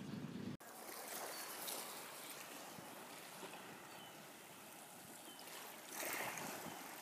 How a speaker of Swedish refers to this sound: Nu har jag varit i Oslo ett tag och har tagit en båt ut i fjorden till Huvudöja, den närmsta ön till Oslo.